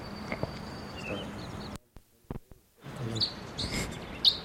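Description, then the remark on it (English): A bunch of wild crossbills flying around the area give about 45 scattered short, high chip calls and brief buzzy notes over a steady hiss of background noise, with a sudden quiet gap partway through before the calls resume. “A bunch of wild crossbills flying around the general area. 45 little calls and buzzes.”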